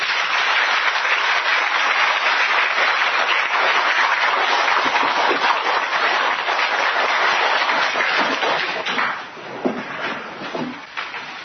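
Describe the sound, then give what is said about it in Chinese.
Sustained, dense applause from a large audience thanking a teacher for a lecture at the close of a five-day study course, a steady wash of many hands clapping for about nine seconds, then thinning into scattered individual claps as it dies down. “我们再以热烈的掌声感谢蔡老师的授课。”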